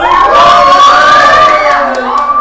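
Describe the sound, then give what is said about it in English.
A loud crowd at a Vacation Bible School evening yells and cheers together as a vote, a sustained burst of many voices overlapping into a roaring shout that fills the space and then tapers slightly toward the end. “Brother Hyde didn't yell. He put his hand up as a vote.”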